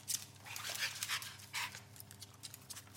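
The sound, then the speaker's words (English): A dog pants in quick, steady breaths, with faint whimpering mixed in and no one speaking, all fairly quiet over a low background hum. “You know, the dog comes in.”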